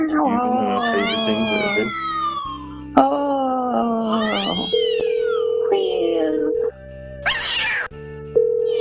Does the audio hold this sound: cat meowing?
yes